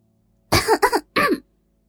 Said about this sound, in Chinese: 咳嗽了两声，也是在向李娟示意自己来了